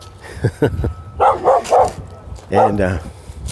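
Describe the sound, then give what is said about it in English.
A fenced-in dog barks repeatedly at a person walking in the woods, loud, sharp bursts, a quick run of three barks followed by a short pause and two more, with some lower huffs at the start. “A little bit of there's a dog after me, but I'm gonna be all right because this dog is fenced in.”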